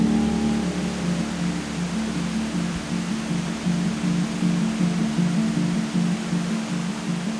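A steady, loud roar of a river rushing past a house fills the whole clip without a break, like a waterfall, with a low churning rumble pulsing underneath.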